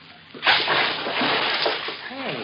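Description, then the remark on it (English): A sudden heavy splash as a man jumps out of a boat into the water and wades ashore, followed by continued sloshing and churning, with a brief voice-like sound near the end. “He jumped out of the boat. Yes, he's wading ashore.”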